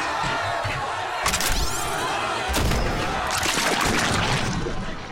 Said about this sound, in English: With a blast and a big wet splat, a line of Vivopolans with cobbled together cannons on their shoulders sprayed what looked like motor oil and smelled like day-old death all over the life-up workers, the executives, and most importantly, the lights